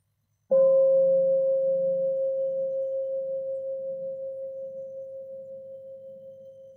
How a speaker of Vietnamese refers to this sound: Xin mời đại chúng nghe một tiếng chuông.